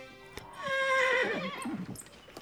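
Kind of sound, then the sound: animal, horse neighing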